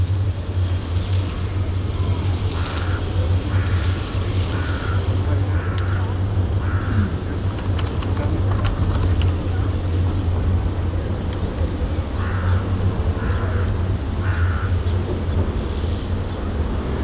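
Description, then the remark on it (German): A deep, steady bass rumble of a tram crossing the Kornhausbrücke drones throughout, with faint, rhythmic higher squeaks coming and going above it and a soft wash of background noise. “Ich glaube, es fährt ein Tram drüber.”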